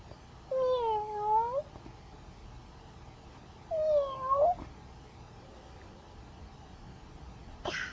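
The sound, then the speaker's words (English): Two clear, drawn-out cat meows sound a few seconds apart, moderately loud, with quiet background hiss and a brief click near the end. No one speaks. “And a kitty.”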